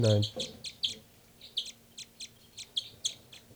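A robin, bird number 318 in a recording session, gives a run of short, high chirps, about a dozen evenly spaced notes in a steady rhythm, preceded by a brief low murmur at the very start.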